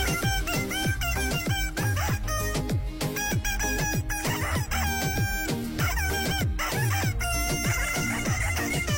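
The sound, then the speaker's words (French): A hen's clucks and squawks, pitched and strung together into the bouncy melody of a hit song, loud and continuous with a steady rhythm of short sliding notes, no voices. “Oui, elle a des plumes, elle a du coffre et elle connaît tous les hits. Écoutez bien, notre poule superstar.”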